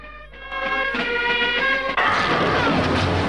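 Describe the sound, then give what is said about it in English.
A strained, tonal creaking builds for a couple of seconds, then a loud crash of the wooden side of a police boat smashing apart bursts in and carries on as a dense splintering roar, pieces of wood falling into the water. “The side of the boat is decimated. Pieces of wood float in the water.”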